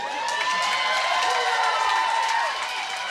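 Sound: crowd cheering and applauding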